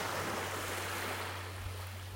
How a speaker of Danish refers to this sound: Vend opmærksomheden indad, luk øjnene og lyt til lyden af bølgernes bevægelse. Det er ikke tilfældigt, at denne meditation er indtalt med strandens lyde i baggrunden.